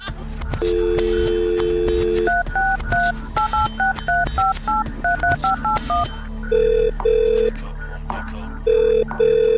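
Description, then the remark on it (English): A steady tone gives way to a quick run of short, stepped telephone keypad beeps, followed by a slower, repeating buzzing tone, all clear with no talking. “Yo, just get off the phone, man.”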